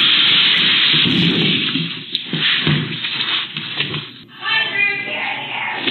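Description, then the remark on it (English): A deer smashes through a window of a butcher shop in Minnesota: loud, harsh crashing and clattering in a dense burst of noise, followed near the end by a woman's high, wavering screaming. “My favorite is not the initial crash, but the second crash when he tries to go out a window that hasn't been broken yet.”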